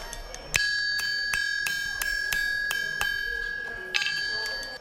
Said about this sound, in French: Les coups de marteau résonnent sur le fer encore chaud que bat le forgeron. Dans cet atelier, on fabrique des chaises, des tables ou encore des lits. Bienvenue au village artisanal Wadata de Niamey, qui regroupe une centaine de professionnels.